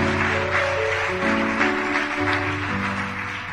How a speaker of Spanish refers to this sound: Dele aplauso al Señor. Aleluya.